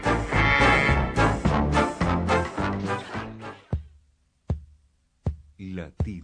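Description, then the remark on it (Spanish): A dense burst of music gives way to a series of sharp, evenly spaced thumps, about one every three-quarters of a second, like a stylized heartbeat sound effect. “Latido americano.”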